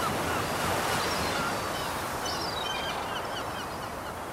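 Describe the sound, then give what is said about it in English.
Steady roar of sea waves washing onto a shore, a continuous broad wash of surf, with faint bird calls rising briefly partway through. “And the birds and the sea.”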